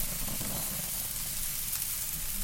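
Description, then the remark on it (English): Chicken skewers sizzle steadily on a grill, a continuous crackling hiss with bright high-end spatter over a low rumble, holding an even level throughout with no talking. “All right, on goes the chicken.”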